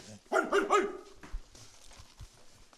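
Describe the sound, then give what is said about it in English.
Two dogs bark in a quick burst of three loud barks, followed by a quieter stretch of low background noise. “Two dogs.”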